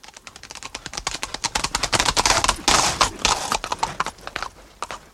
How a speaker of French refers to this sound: Eh bien, il s'était assoupi au bord du grand chemin, la bride de son cheval passée dans son bras. Et l'animal paissait l'herbe autour du dormeur, autant que la longueur de la bride le lui permettait.